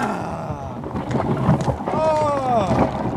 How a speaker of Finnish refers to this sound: Alkaa lumipyry ja matka rupeaa joutumaan nopeaa. Taivas oli synkistynyt ja ankara tuuli noussut. Lumipyry pani harmaat tiet vaalenemaan.